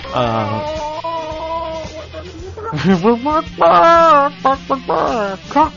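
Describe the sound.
A voice imitates a chicken's mating call, letting out drawn-out warbling cackles and then a burst of choppy, rising clucks, loud.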